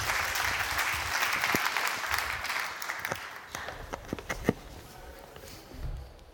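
An audience applauds steadily, a dense wash of many hands clapping that gradually thins, with a few sharper individual claps standing out before it fades toward the end.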